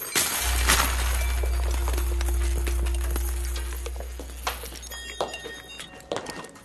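Metallic clinks and clatters scatter irregularly, like coins dropping and knocking together, fairly loud, with a steady low hum running underneath throughout.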